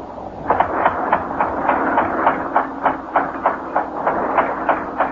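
An air pump for a diving helmet runs steadily, a rhythmic mechanical chugging with regular clanking pulses about three times a second over a continuous hiss and low rumble, with no voices.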